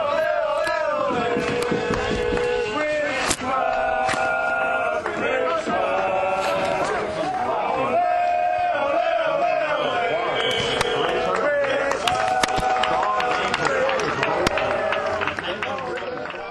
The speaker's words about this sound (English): As you can tell from the singing, the Richmond Rebels were now firm crowd favourites.